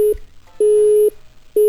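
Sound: telephone busy tone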